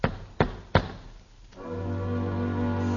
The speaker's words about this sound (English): Someone is knocking. Knocking at the door.